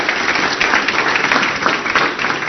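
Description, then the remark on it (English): An audience claps together in steady, dense applause, many hands blending into a loud continuous patter that holds level throughout with no voices standing out. “And yep, and give yourselves a big hand clap for loving on each other.”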